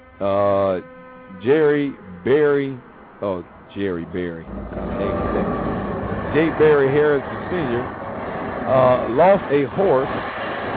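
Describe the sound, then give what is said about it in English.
A voice speaks alone at first, then a steady, loud rumbling roar of a passing train rises and continues beneath the talking until the end. “I had to speak over the train.”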